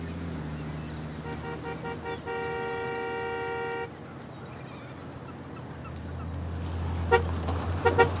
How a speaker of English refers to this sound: A pickup truck approaches as the car drives away.